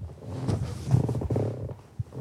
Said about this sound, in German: Das ist der Schaukelstuhl, ja. Ja, ist der Schaukelstuhl. Kein Wunder, dass der Sound macht.